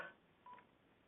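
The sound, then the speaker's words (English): A short electronic phone keypad beep sounds once as a speaker on the call mutes their phone, over a faint, hissy phone-line background, with no one talking. “Please mute your phone.”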